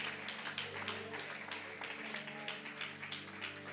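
An audience applauds in worship of God, a dense, steady patter of many hands clapping, held over a sustained low keyboard chord that hums underneath throughout.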